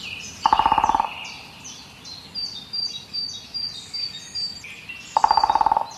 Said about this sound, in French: Et ça, c'est un pic, sans doute un pivert.